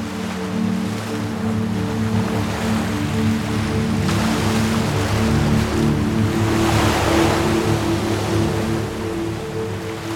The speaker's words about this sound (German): Du kannst dem Meer lauschen. Hör sein beruhigendes Rauschen. Wie er Welle für Welle den Strand glättet.